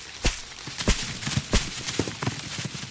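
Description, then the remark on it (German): Heavy feet of several people stamping together on the ground to shake apples off an apple tree, in a loose, uneven rhythm, with several strong thuds standing out among softer steps and without any talking. “Dann stampfen wir jetzt alle zusammen.”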